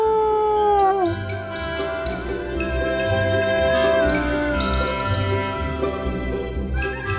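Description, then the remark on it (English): A long wolf howl glides downward in the opening second, then gives way to steady, tuneful background music with light jingling, fairly loud throughout. “A big kiss and a hug for all of you from the good wolf. Howoo!”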